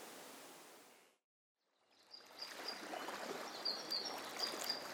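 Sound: flowing river water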